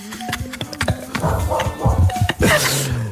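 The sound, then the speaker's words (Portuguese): A dog barks several times in quick, uneven bursts over a busy background with other animal-like calls and some faint voices. “Espera aí, ou é o cuco ou é um cão.”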